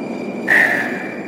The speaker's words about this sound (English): Here's my train right here. Hey. Fucking hate the metro.